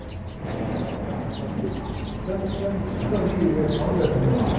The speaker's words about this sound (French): Maintenant, on les entend un tout petit peu. Plus le cucu des oiseaux.